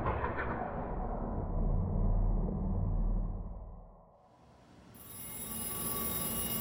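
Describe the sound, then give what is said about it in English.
A steady low rumble, like a moving train, fades briefly before a telephone starts ringing near the end with a call from Block's agent, its bright electronic tone cutting through the background noise. No one speaks. “It's Block's agent on the phone.”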